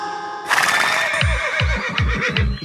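A horse lets out a loud, shrill neigh that starts abruptly and warbles on, with a series of about five rhythmic, low, fluttering pulses underneath, and no talking.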